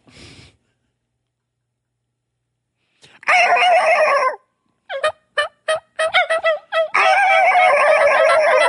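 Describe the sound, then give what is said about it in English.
Turkey tree yelping made with a hunter's call: a drawn-out raspy note, then a quick string of short nasal yelps, and another long yelp, fairly loud, with no talking. “I may tree yelp again and see if I can get him to spark off on that yelp.”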